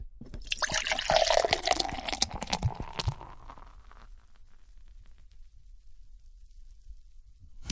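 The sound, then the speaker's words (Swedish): Beer glugs and splashes into a glass for about three seconds, a bright fizzing pour that rises in pitch, then fades to a quiet hiss and near silence. “Ska inte du också hälla upp en sån? Jo, jag kanske gör det.”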